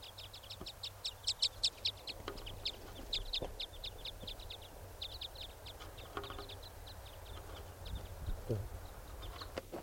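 Foraging type 5 birds call in a steady stream of short, high chirps and cheeps, loudest in a quick burst at the start, then continuing more softly over a low, constant rumble.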